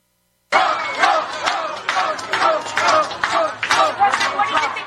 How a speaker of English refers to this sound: Here's Trump in the Puerto Rican neighborhood. Can't even hear him talk because they howl and scream.